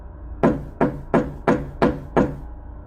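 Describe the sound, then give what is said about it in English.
Six heavy, evenly spaced thuds of a man pounding hard on a door, loud, each hit booming with a short decay before the next. “The man then started to loudly bang on my door.”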